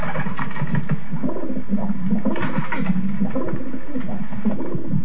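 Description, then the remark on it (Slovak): Pigeons kept in a yard, of breeds including large pouter, saddled muffed, Czech pouter, Moravian strasser, East Slovak tumbler and white carrier, coo in a low, throaty, overlapping murmur, the soft rolling calls repeating continuously and fairly loudly throughout, with no one speaking. “No a už ich počujem aj hrkútať.”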